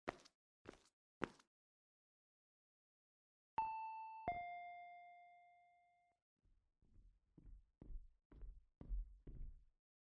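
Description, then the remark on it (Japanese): An intercom doorbell gives a clear two-tone ding-dong, a higher note then a lower one that rings out and fades. Someone at the door who forgot their key rings it. A few sharp taps come before it, and a quick run of soft thuds follows. “なんでインターホンなんか。”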